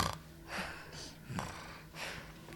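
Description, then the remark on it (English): Someone imitates snoring with their voice, making a few rhythmic, breathy snorts and wheezes in quick succession, with no other talking. “The shark was snoring really loud.”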